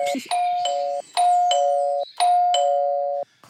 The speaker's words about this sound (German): ich klingel noch mal. Und vielleicht direkt ein paar Mal. Viel hilft viel bei den beiden.